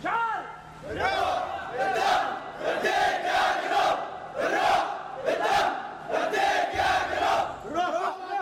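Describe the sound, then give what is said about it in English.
Street sounds in the besieged Yemeni seaport city of Aden, on a peninsula overlooking the Red Sea, with a large crowd of voices shouting and chanting in loud, repeated surges, the clamor steady and continuous throughout, with sharp bursts rising above the din. “This is what it sounds like in the Yemeni city of Aden on a picturesque peninsula overlooking the Red Sea, an ancient seaport, a place where traders from Europe and Asia prospered centuries ago.”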